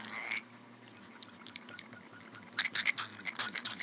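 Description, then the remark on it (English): A steady low electric buzz of a vibrator hums throughout, joined by a burst of wet, squelching splashes against wet skin in the second half, moderately loud, with no talking. “You hear the vibrator, like, splashing against all the pussy juice.”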